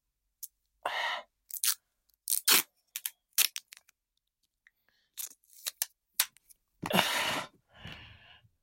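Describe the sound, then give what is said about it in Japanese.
Adhesive tape being pulled and pressed down to fix a two-pronged vibrator to the body, with a series of short crackly rips and one longer, sustained tear near the end, with no talking. “テープで固定しちゃいます。”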